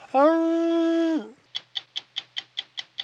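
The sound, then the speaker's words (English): A single loud, steady howl, attributed to a tiger on an island that most scientists believe to be extinct, holds one pitch for about a second and cuts off sharply. A run of eight quick, evenly spaced ticking clicks follows. “And then all of a sudden was there a mighty howl like this.”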